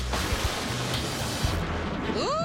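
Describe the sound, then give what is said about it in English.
Steady, dense rain of a thunderstorm hisses without a break, fairly loud, with a low rumbling undertone beneath it and a brief rising whine near the end, while people on a ladder handle wires to adjust a satellite dish. “It's not safe up there in the middle of a thunderstorm handling wires.”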